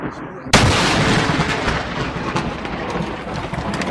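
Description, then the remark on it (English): A sudden, deafening crack of thunder from a lightning strike about 5 yards from a man, blackening his yard, bursts in after a quiet moment, then a loud, sustained roar and rumble that stays heavy to the end, with no voices. “The third one is about 5 yards from him, and you'll hear the loudness of it.”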